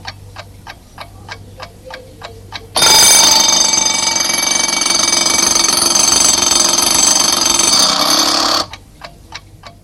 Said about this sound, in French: La sonnerie du réveil les fait sursauter.